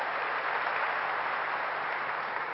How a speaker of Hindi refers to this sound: अब एक बार अपने बच्चों के लिए जोर से तालियां बजाइए।